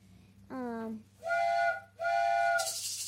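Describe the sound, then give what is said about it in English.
A train whistle sounds as a train arrives: a brief lower tone, then two long, steady, high whistle blasts in a row, ending in a loud rush of hissing steam. “It looks like a train's arriving.”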